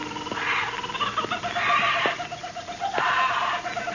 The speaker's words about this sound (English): Old man Kelso had a huge aviary at one corner of the house. Something had disturbed the birds.